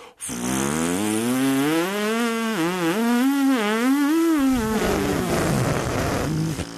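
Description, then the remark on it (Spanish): A trumpeter's lips buzzing without the mouthpiece, before placing the lips on it, a loud raspy drone that wavers up and down in pitch for several seconds, growing noisier and breathier toward the end. “O sea, antes de colocar los labios en la boquilla, yo produzco este sonido, el zumbido.”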